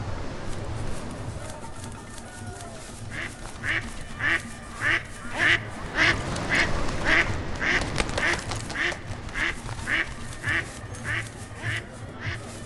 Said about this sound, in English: Noisy duck.